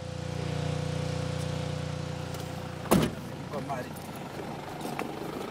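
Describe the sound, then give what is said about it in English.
A generator's steady low engine drone hums for a few seconds, then a sharp thud cuts in and the drone fades to a quieter background with faint, indistinct voices. Generators light a few homes in Harare during a power outage, in complete darkness. “There's no electricity, just the sound of generators for the few who want to light their homes.”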